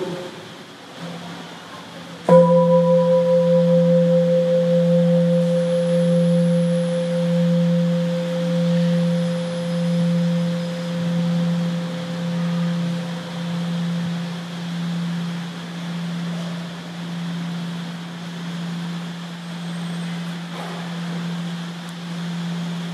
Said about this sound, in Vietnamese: Và bây giờ mình nghe thành cái tiếng chuông.